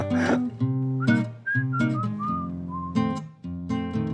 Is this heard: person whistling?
yes